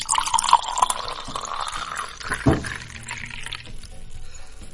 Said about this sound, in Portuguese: E vamos tomando aquele gole de água.